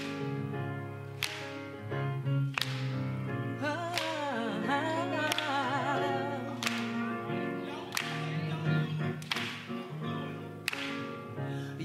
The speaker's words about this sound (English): So come on, stand on your feet and clap your hands like this. I need that. I want everybody to join in.